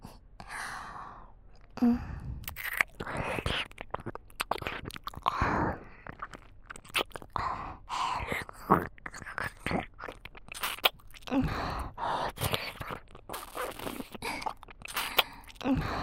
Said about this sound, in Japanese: それじゃあ早速、お耳、ペロペロしちゃいますね。